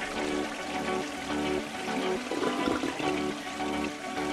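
A toilet flush sound effect on The Kid Craddock Morning Show: a loud rushing swirl of water that surges midway and then drains steadily over a few seconds, with no talking.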